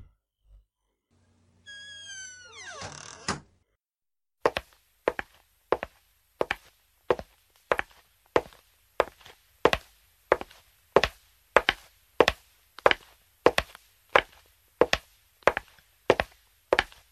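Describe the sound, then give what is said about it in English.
A door creaks and shuts with a solid thud, followed by a long run of steady, evenly paced footsteps on a hard floor, fairly loud, with no voices. “Okay, get the door behind you.”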